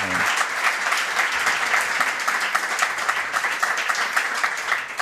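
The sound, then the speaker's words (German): An audience bursts into steady, sustained applause, a dense wash of many hands clapping at an even loudness for several seconds without any voices standing out, at the live show Lage der Nation No. 111 in the Roter Salon of the Volksbühne, Berlin, on 21 September 2018. “Applaus.”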